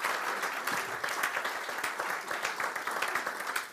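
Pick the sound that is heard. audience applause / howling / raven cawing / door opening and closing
audience applause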